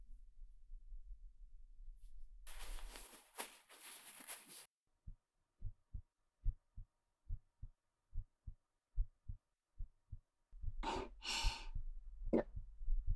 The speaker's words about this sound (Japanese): どう？聞こえる？早くなってるとか、そういうこと言わないで、恥ずかしいから。そりゃドキドキするでしょ。